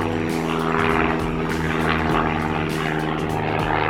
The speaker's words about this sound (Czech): A pak s vámi úplně náhodou spadne letadlo.